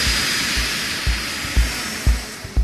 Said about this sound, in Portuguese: Enquanto uma turbina de avião pode chegar ao nível máximo que o ouvido humano suporta, 140 decibéis.